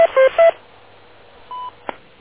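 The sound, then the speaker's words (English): A timer time-out beep on a radio: three quick dual-tone electronic pulses, a pause, then one steady mid-pitched beep and a sharp click. No one speaks. “That's the first time my timer timed out.”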